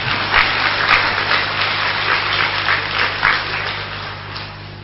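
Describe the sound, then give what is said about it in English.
An audience claps together in a dense, steady patter of many hands that holds for about five seconds, with a few louder bursts, before thinning slightly at the end. No one speaks over it. “Yes, you may clap, but Baba wants to see the result.”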